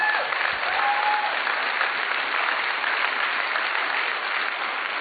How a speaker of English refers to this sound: Clap. Praise the Lord.